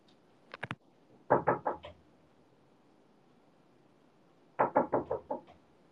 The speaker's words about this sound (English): What if I knock on the door while she's not looking?